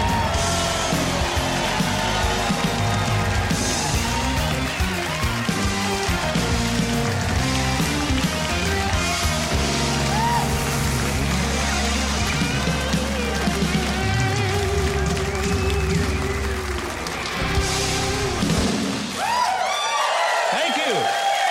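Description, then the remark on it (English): An audience cheers and applauds steadily over the band playing as Mike Huckabee is introduced on his show, the clapping a dense, continuous wash for about twenty seconds before the music drops away near the end. “What a great crowd.”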